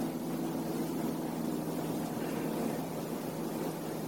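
airplane flying overhead

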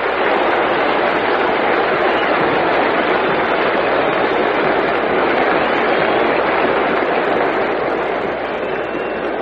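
stadium crowd applause

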